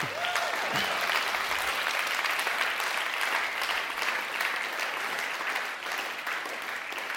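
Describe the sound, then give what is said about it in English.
An audience breaks into sustained, dense applause for what Jesus has done, a steady wash of clapping that holds at an even loudness for several seconds with a few brief tonal whoops at the start. “So I want to do something now, and I wonder if for those people, and especially for God, if we can give a massive applause to what Jesus has done.”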